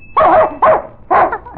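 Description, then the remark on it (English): A dog named Jig barks for candy, which he gets whenever he hears a bell. He barks three times in quick succession, each bark loud, short, sharp and slightly yelping, with brief gaps between them. “Every time he hears the bell, he knows that he's going to get candy. And he barks till he gets it.”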